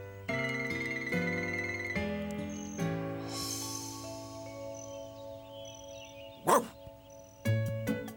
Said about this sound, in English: Woof, woof. Now stop that. Stop, stop it. Just stop now.